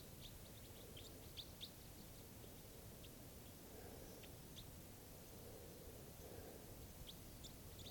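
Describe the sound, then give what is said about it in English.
Short, high-pitched bird chirps from a flock high in the trees, with one bird sitting by itself, come in scattered bursts, a quick cluster early on and then single tweets here and there, faint over a steady hiss of background noise with no one talking. “There's a bird by itself I'm pointing at.”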